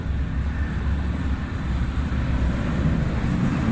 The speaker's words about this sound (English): Wait to the top of the stairs. Train coming, we may get it. Forward.